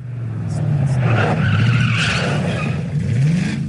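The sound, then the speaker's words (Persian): Racing cars roar past with tires skidding and screeching, a loud, continuous burst of engine noise and squealing rubber lasting a few seconds, with no one talking. “صدای خودروهای این گشت ها که کورس گذاشتند تا به 21 تیر ماه برسند از همیشه بیشتر شنیده می شود.”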